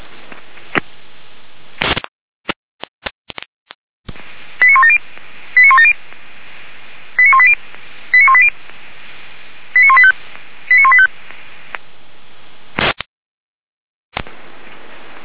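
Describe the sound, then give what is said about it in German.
Radio pager alert test tones from a test of the fire brigade pagers of the professional fire brigade and all volunteer fire brigades of the city of Weimar, Germany: three pairs of short, bright multi-tone bursts sent over a crackly, band-limited radio channel, with scattered clicks and brief dropouts around them and no one speaking. “überprüfen Funkmeldeempfänger für die Berufsfeuerwehr Weimar und alle freiwilligen Feuerwehren der Stadt Weimar.”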